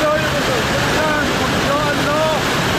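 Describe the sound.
Rushing floodwater roars steadily and loudly throughout in Firuzkuh, where roads are closed by flooding and landslides, a dense, constant wash of churning water, with faint voices briefly audible beneath the noise.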